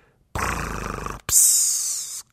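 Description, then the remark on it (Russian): A voice imitates one loud snore of Uncle Julius: a rough, rattling growl on the intake, a brief pause, then a long breathy hiss on the exhale. “Но потом дяде Юлиусу приснился, видимо, кошмар, потому что его храп стал звучать так жалобно.”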